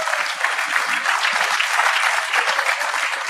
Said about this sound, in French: On va les applaudir.